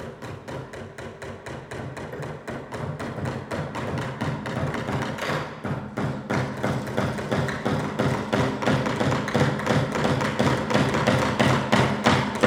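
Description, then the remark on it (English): Several people drive nails in with hammers in rapid, steady blows, several strikes per second with overlapping metallic knocks that grow slightly louder over time. No voices are heard. “Can you guys take these hammers and show me how you nail stuff in?”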